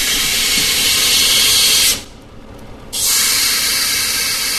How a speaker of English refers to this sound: A belt sander takes the sharp edges off. The noise drowns out the music from the record pressing plant next door.